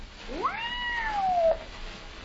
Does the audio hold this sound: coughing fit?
no